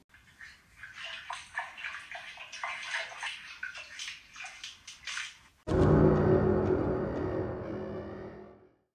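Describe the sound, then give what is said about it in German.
Water splashes and sloshes in uneven bursts for several seconds, then a loud, steady gush of pouring water suddenly takes over and runs strongly until the end. “Noch viel mehr Wasser, noch viel mehr Wasser, noch viel mehr Wasser.”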